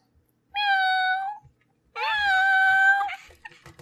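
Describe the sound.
A person imitates a cat, giving two drawn-out, whiny meows, the second longer with a slight rise and fall, separated by a short silence.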